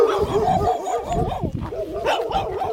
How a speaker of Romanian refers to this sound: Numai că la ferma de porci a fostului Iasa Giurgeni din Ialomița m-au înconjurat câinii.